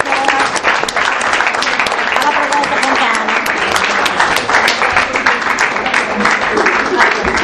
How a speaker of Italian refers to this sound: Facciamo un ultimo applauso